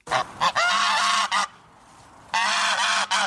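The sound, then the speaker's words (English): A normal, small white goose with an orange beak squawks loudly in harsh, nasal honks: a few quick calls, then a long raspy squawk, a brief pause, and another drawn-out honk. No one speaks. “That's the slightly irritating squawk of a normal goose.”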